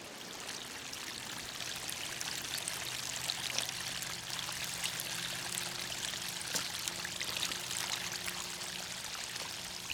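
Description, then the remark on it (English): Steady burble and rush of a small creek flowing over rocks across a trail path, a continuous bright splashing texture with no voices, holding an even level throughout. “Just taking a moment to notice the small creek across the path”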